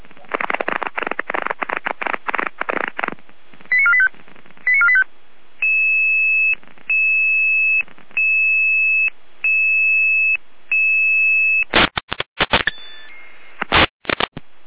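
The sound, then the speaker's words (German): Radio alerting tones from a fire brigade: a steady pulsed sequence of electronic tones, about six even bursts with short gaps, framed by crackly bursts of radio static before and after. “Letzte Gare mit Alarmierung.”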